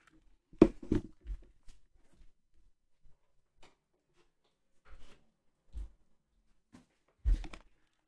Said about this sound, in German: Entschuldigung wegen der kurzen Stille. Ich habe kurz die Tür von meinem Zimmer zugemacht.